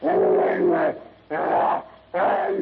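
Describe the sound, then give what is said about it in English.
Three loud monster howls of savage rage from a gigantic half-human brute, harsh and snarling, separated by short gaps; the bestial cries sound like a human voice imitating a raging creature. “With a howl of savage rage, the half-human brute crashes to its knees.”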